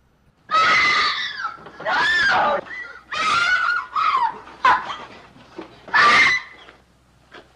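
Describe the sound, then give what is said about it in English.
A woman screams again and again, loud, shrill bursts coming close together with short gaps between them, with no talking underneath, as she is pulled back inside a farmhouse while trying to escape. “Hearing the screams, Luhan seizes the opportunity to hide the bag of loot under his shirt.”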